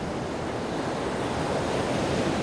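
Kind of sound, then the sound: nature, ocean surf and wind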